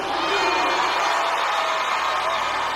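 A large church audience shouts and cheers together during the Yoruba worship song "Oluwa", meaning Lord, in a steady, dense roar that fills the whole stretch without pause, loud, with no single voice standing out.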